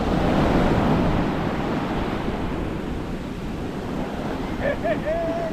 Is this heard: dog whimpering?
no